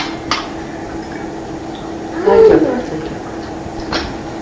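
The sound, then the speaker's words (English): A person briefly imitates a roar, a short, growly vocal burst in the middle, over a steady low hum with a couple of faint clicks before and after. “Who wants to roar besides me?”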